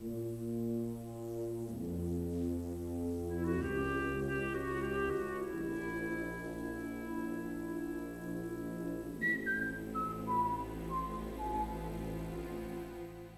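Whistled melody carried by men's voices, priests whistling a theme in the film Gidget Goes to Rome, with clear sustained notes moving in slow steps and a descending run near the end, set over a full, warm orchestral accompaniment. No talking.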